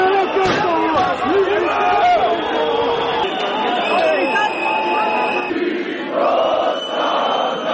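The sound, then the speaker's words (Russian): Thousands of protesters outside the Serbian parliament building in Belgrade, opposing plans to reinstate a COVID-19 quarantine and curfew, roar steadily: a loud, dense mass of overlapping shouts and yells with a few sharper cries rising above the din throughout. “Перед зданием парламента Сербии в Белграде собрались тысячи человек, которые выступили против планов властей вернуть карантин и ввести комендантский час из-за роста числа заболевших коронавирусом.”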